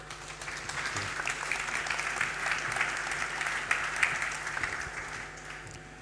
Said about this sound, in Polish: a tym samym zapraszamy Państwa serdecznie do prezentacji pierwszej drużyny, czyli Psylosoft. Wielkie brawa!